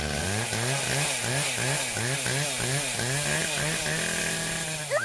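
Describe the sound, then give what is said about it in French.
A chainsaw engine whines loudly, its pitch rising and falling in quick, regular revs about twice a second, with no voices over it. “Et là, on a entendu des bruits de tronçonneuses.”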